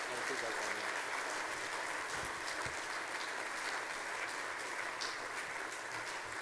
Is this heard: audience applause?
yes